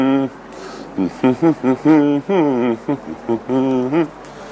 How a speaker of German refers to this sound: Ein paar Töne summen.